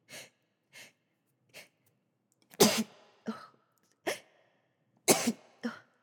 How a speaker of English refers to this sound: I also need a sneeze. Excuse me.